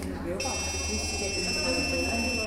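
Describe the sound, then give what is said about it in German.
An electronic badge reader at an entrance three-arm turnstile beeps several times, its display showing no access, giving a sharp, high-pitched tone that starts just after the beginning and holds steadily to the end, over a low murmur of voices. “Bei mir piepst es mehrmals. Und auf dem Display steht kein Zutritt.”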